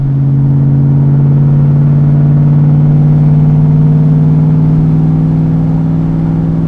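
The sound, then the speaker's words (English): A car drones along steadily at 60 miles an hour in fifth gear at 2,000 RPM. Its engine holds a constant low hum, and wind rushes in through both open windows, loud and continuous without any voices. “2,000 RPM, 60 miles an hour, fifth gear, both windows open, holding the mic right in front of my chest.”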